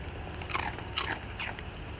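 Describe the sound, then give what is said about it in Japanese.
Crisp crunching of a Japanese rice cracker (senbei) being bitten and chewed, three distinct crackly bites spaced about half a second apart, the first bite by one eater and the following by another, with no talking. “いい音だね。おいしいか、よかったね、おせんべいもらって。”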